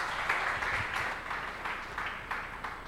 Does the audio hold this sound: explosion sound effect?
no